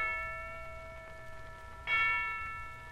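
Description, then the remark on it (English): A town clock's bell strikes two o'clock, the first chime already ringing and fading before a second, slightly louder strike lands near the end, its tone lingering. No voices are heard. “At last, he heard the town clock strike 2.”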